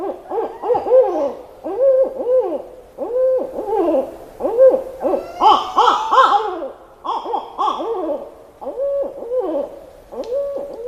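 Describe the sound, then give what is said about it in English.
Several barred owls hoot in overlapping bursts, loud rising-and-falling calls tumbling over each other in a rapid, excited chorus with wavering cackles throughout. No one speaks. “Ah, but the barred owl is the noisy one, hooting in all seasons, sometimes during the day, but especially at night.”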